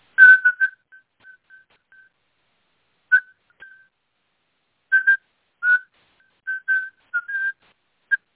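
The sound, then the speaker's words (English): A young man, a ham radio operator in an American hospital, whistles a Morse code CQ call and his call sign: short and longer tones in a halting rhythm, each note clear, separated by brief pauses, with no talking. “And as soon as he heard that, he started whistling.”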